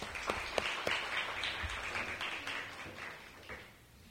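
Audience applause at a community meeting at a state school as panel members are called up: a dense, steady patter of many hands clapping with a few sharper individual claps standing out, fairly loud throughout and tapering slightly at the end. No talking.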